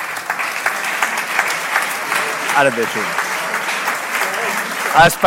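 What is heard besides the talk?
audience applause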